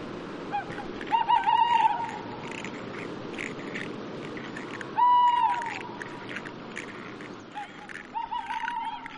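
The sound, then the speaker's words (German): A small bird gives a few short, slightly rasping calls, three separate bursts spaced a couple of seconds apart, heard against a quiet, steady nighttime background hum. “Die Nacht war still, nur ab und zu hörte man Geräusche. Es war ein kleiner Vogel.”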